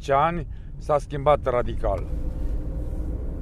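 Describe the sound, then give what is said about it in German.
Steady low engine rumble from inside a car driving along the main street of the village of Moisei, with a voice speaking briefly over it at the start before the drone continues on its own. “Durch die Autofenster ist die Hauptstraße Moiseis zu sehen.”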